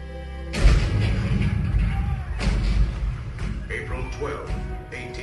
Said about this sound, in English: April 12, 1861, Fort Sumter. The cannon spoke for war.